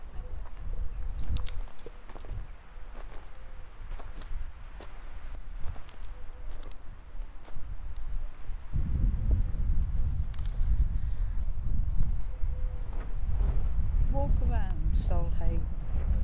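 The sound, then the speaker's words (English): Steady footsteps crunch along outdoors at a walking pace, moderately loud over a constant windy rumble, with a few brief bird calls near the end. “Sheep baa, pigeons coo, crows squawk, we continue to walk.”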